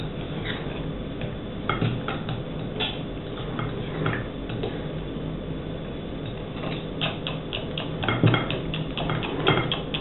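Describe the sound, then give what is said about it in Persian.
A utensil stirs ingredients in a cooking pot to mix them into an even, uniform colour, giving off irregular clinks and soft scraping taps at a moderate level over a steady low background, with no one talking. “همش میزنم تا با هم دیگه مخلوط بشن.”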